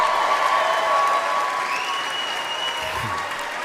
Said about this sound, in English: I knew none of you knew WNBA players. That's crazy. You clap for that.